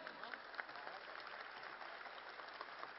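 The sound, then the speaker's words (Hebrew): Applause from a large audience fills the great hall of the Fairgrounds Center, Pavilion 2, a dense, steady wash of many hands clapping at once with no talking over it. “רבותיי, מחיאות כפיים.”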